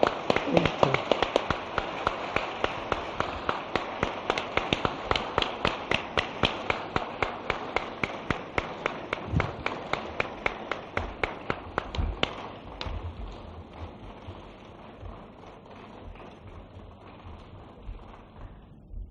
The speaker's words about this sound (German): Sie haben aus dem Applaus vielleicht vernommen, wie sehr Ihre Worte gezündet haben.